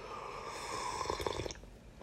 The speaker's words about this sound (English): Come on, I didn't hear you slurp as loud as I do. Try that again, okay? You got to have a nice, loud slurp, okay? That's good stuff. I'm drinking liquid Twinkie today.